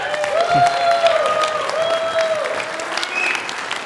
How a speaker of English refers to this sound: can we keep that applause going for our guest